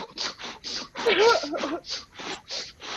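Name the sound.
imitated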